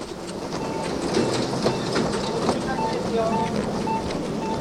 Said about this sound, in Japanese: もうこれは地下鉄の改札ですね。今地下鉄の改札を出ました。出ましたというか入りました。